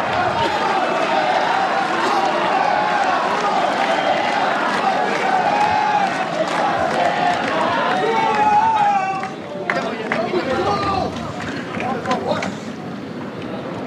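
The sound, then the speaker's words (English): A tennis crowd with Brazilian fans cheers wildly during a match involving Fonseca, a dense, steady roar of many shouting voices that stays loud throughout and dips only slightly near the end. “And the Brazilians are going crazy in the crowd.”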